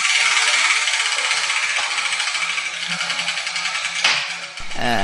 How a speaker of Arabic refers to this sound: إذن هيا بنا لنبدأ بتدوير دولاب الحروف. لنبدأ؟ سوف أقوم بتدوير دولاب الحروف.